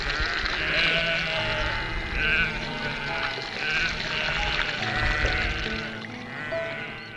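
A flock of sheep being given water at a well bleats continuously, many overlapping wavering cries rising and falling together at a steady moderate loudness, with a soft watery trickle faintly underneath.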